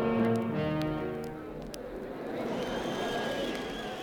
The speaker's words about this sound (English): I'm off in my armored car to watch the president light up the world.